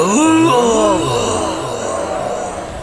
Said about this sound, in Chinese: 正在对法阵疯狂捶打的强化兵团在阴功的侵扰下发出一道道低吼，只感觉体内澎湃的灵力便如汹涌的波涛一般激荡了起来，有种难以掌控的感觉。